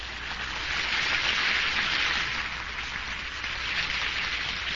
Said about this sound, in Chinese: 还有啊，今天呢，我的妈妈也在后面，我们给她鼓掌一下。